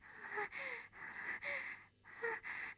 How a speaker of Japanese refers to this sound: 主人様の息遣いが聞こえる。